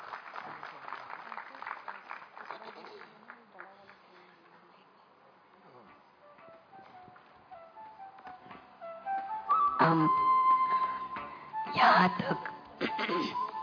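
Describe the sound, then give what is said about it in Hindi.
An audience claps loudly in a dense patter that gradually thins out, followed by sustained tonal sounds and a few louder bursts of noise toward the end. “इन्होंने respectfully and diligently carefully सबको select करके बहुत अच्छा ऑर्गेनाइज किया, इसके लिए भी जोर से ताली बजाए।”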